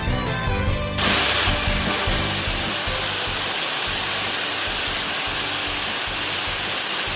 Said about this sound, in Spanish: Así, de esta manera, sonaba el agua que caía ayer en Zarcilla de Ramos, la pedanía lorquina que fue afectada por una tromba de agua y granizo que anegó casas, garajes, terrenos y carreteras.